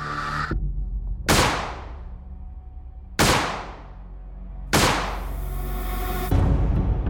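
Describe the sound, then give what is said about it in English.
Three loud gunshots from a Smith & Wesson .38 revolver crack out about two seconds apart, each blast ringing and fading into a low rumble before the next, followed by a final heavy thud, as a woman fires at her sleeping husband in bed. “She carefully aimed the gun at Phil and pulled the trigger 3 times.”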